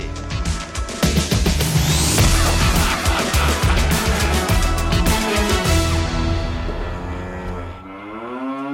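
A car engine roars loudly with screeching, skidding tires as the vehicle tears off, then the engine note climbs in pitch as it accelerates away. No one speaks.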